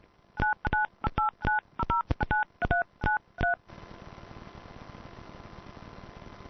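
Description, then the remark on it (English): A quick run of a dozen or so loud touch-tone keypad beeps as a PIN number is entered on a phone call, each seemingly doubled by a short echo, followed by a steady hiss and low hum on the phone line. “Is, like, altering the DTMF, because every time I enter it, I'm hearing it echo back to me.”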